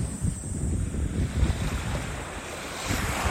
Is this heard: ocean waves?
yes